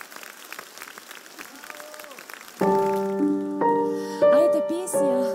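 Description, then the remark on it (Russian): A crowd claps steadily in a dense, even patter, then loud sustained musical chords enter about halfway through and ring over the fading applause. “И я думаю, она заслуживает всех ваших просто сумасшедших оваций.”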